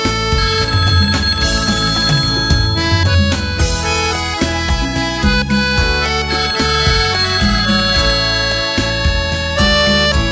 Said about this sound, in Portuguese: Meu amor, por favor, atenda o telefone.